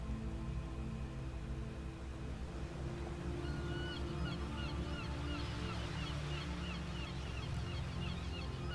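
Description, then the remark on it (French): Birds call over a steady low harbour rumble: scattered cries of gulls flying low over the waves and a faint clattering of storks nesting at the port, busiest in the second half, with no voices. “Le craquettement des cigognes installées sur le port nous parvient et se mêle à celui des goélands et des mouettes, lesquels caressent presque les vagues de leurs plumes tant ils volent bas.”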